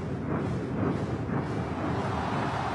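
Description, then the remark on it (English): A loud, dense roar from a huge stadium crowd with drums banging and booming beneath it, sustained without a break for the whole stretch, at the opening ceremony of the Beijing Olympics in the Bird's Nest Stadium. “To the bang of drums and the roar of the crowd, Beijing's Olympics opened with a boom.”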